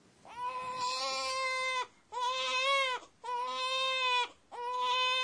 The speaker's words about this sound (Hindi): ये किसी शिशु के जोर से रोने की आवाज है। जापानी भाषा में इसके लिए शब्द है उंग्या उंग्या।